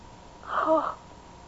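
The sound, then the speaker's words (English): A single muffled sneeze, short and fairly soft, bursting out once and fading quickly against a quiet background. “Bless you, son.”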